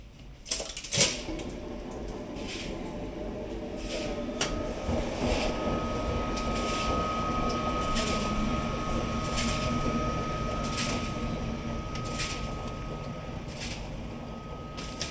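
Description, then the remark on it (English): Washing machines churn in the Spring Clean laundrette on Victoria Street with a steady, rhythmic swish of swirling water over a constant mechanical rumble and ticking machines, with a sharp clunk near the start and a thin, drawn-out squeak of a door later on. “Rhythmic swishing, swirling water, ticking machines, and a squeaky door.”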